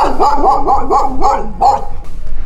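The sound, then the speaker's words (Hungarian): A dog barks in a quick run of about six high, yappy, loud barks, each with a rising-then-falling pitch, with no voices alongside. “Ez természetesen nem Messi volt, hiszen ő jól nevelt kutyaként egy trükk segítségével időnként még tapsolt is elében.”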